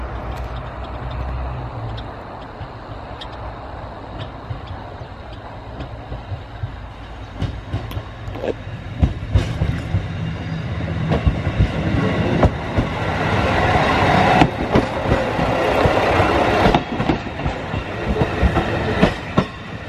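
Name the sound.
train departing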